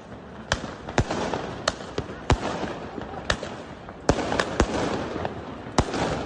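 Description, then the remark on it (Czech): Repeated sharp firework and firecracker bangs crack out at irregular intervals, about a dozen in six seconds, over a continuous rumbling crackle of further explosions. “Iako odigravanje kroz vatromet, pirotehniku, pucnjavu petarde prvo je za osudu, a onda posle toga takođe izaziva negativne asocijacije, iz psihološkog ugla može dobiti novi smisao i tumačenje.”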